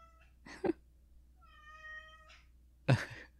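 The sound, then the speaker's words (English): A pet cat meows two times, once near the start and again near the end, with a quieter drawn-out tonal cry in between, with no talking. “If you can still hear our cat, apologies.”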